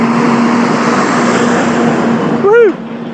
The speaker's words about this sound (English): hang on, San Francisco Fire Department, engine 36, sorry dudes.